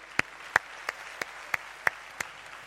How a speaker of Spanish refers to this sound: Amén. Demos un aplauso al Señor, dale.